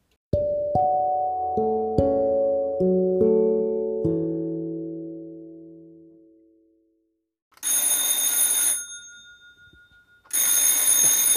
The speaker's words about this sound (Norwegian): Ja, nå ringer denne telefonen igjen. Den står aldri stille her på denne gården.